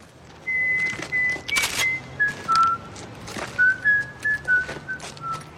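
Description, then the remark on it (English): A man whistles the bouncy nursery-rhyme melody 'The Farmer in the Dell' in clear, steady notes, fairly loud, as whistled by the TV character Omar Little, a robber; a few sharp bursts of background noise and a low rumble underneath. “more than anyone else, Omar Little, the gay farmer in the Dell whistling robber and murderer.”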